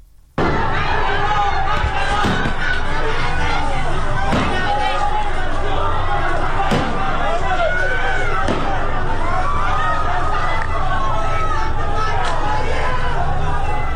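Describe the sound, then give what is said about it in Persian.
A large crowd fills the street with continuous loud shouting and chanting, many voices overlapping, with several sharp bangs or slams cutting through at irregular intervals. “و اما در مرودشت تظاهرات خیابانی برگزار شد صبح امروز.”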